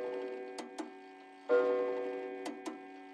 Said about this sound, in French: Tout d'un coup, Thérèse a entendu l'horloge sonner.